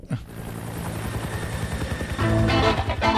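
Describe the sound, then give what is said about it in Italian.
A helicopter's rotor thumps in fast, steady pulses over a droning engine whine, loud, swelling slightly louder near the end. No voices. “Senti, oh, l'elicottero! Questo è perfetto.”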